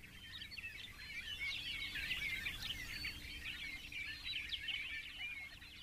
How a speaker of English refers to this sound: Open country birds are in full song, including both eastern and western meadowlarks you hear in the following recording.